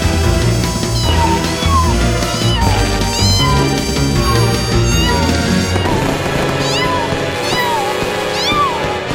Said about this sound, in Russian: Что, это первый твой Новый год? Выходит, ты очень маленький кот.